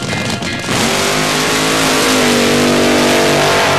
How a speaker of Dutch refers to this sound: Een monster dat speciaal gebouwd is om er in zeer korte tijd een enorme snelheid mee te behalen. Een 12-cylinder motor van 1800 pk, vliegtuigbanden achter waar de rubber van zal afbranden en in 6 seconden op een snelheid van bijna 400 km per uur.